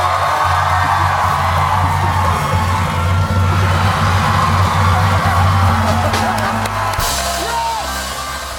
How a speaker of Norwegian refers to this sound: Vi hører jo bare jubel selvfølgelig, men her sitter altså Jimmy Fallon og rufser Trump i håret.